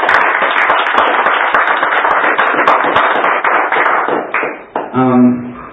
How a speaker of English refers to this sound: Well, hallelujah. Let's give God another hand clap for prayer.